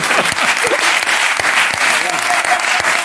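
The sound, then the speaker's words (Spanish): Steady, loud applause from an audience fills the full three seconds, a dense wash of rapid clapping with sharp individual claps, with a few voices faintly mixed in. “Pues nada, pues a ti por venir, joder, un aplauso más.”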